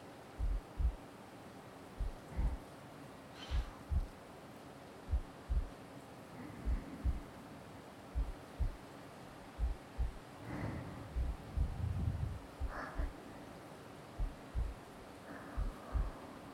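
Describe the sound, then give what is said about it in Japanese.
A steady heartbeat thumps in soft, low double beats at a slow, even pace, muffled, with a faint rustle and hum underneath and no voices. “ほら、お母さんの心臓の音、よーく聞いて。”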